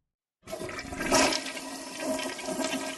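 A toilet flushes, a loud rushing surge of water that peaks quickly, then settles into a steady swirling, gurgling drain. No voices are heard.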